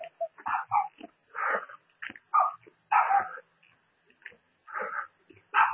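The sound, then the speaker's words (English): Small, floppy dogs starting to range out bark and yip in quick, irregular bursts, about a dozen sharp high-pitched barks with brief pauses between, moderately loud, with no talking. “These little floppy dogs are starting to range out a little bit.”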